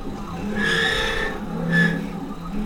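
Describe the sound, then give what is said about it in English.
A CNC milling machine in the Defense Distributed machine shop in North Austin mills a pocket in an AR-15. It cuts metal in two rising, high-pitched screeching passes, a harsh tonal squeal over grinding noise and a steady low mechanical hum, with no voices. “That strange screeching sound is milling of a pocket in an AR-15.”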